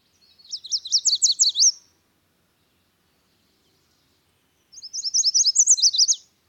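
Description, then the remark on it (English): A yellow warbler sings two bright, high-pitched songs of rapid sweet notes, each about a second and a half long, separated by a few seconds of silence, clear. “Here is the warbler's sweet melody.”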